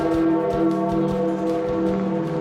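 A deep funeral bell tolls for Pope Francis at the end of his funeral in St. Peter's Square. Its resonant ringing hum is sustained and layered with lingering overtones, steady and loud throughout with no voices.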